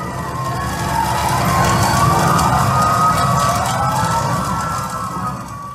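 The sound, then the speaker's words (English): Emergency sirens wail during a bushfire over a dense, rumbling background, their gliding tones overlapping and holding steady at a loud level before easing slightly at the end. “The sirens got louder, the sounds of the fire started to increase.”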